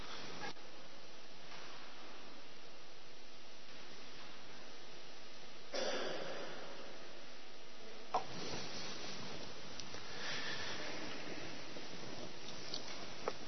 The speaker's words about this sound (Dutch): Mag die even uit, ik moet mijn neus snuiten, dat vind ik zo vervelend.